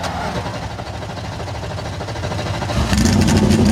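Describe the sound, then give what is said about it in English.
The engines of 37 race cars roar to life together on the grid at Richmond Raceway before the Cookout 400, a dense mechanical rumble that swells and rises in pitch as they rev louder near the end. “37 engines come to life down on the grid.”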